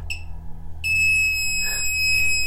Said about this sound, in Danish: Hvis man holder den helt tæt op ad væggen, så de kunne finde skjulte mikrofoner. Og det her, den her lyd, det betyder, at der ikke er nogen mikrofoner. Der skal komme en konstant tone eller en hurtig, meget hurtig biplyd.